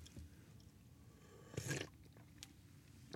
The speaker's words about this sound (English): I'm here, got my Yeti mug with some hot black coffee in it. Let me grab a sip of that.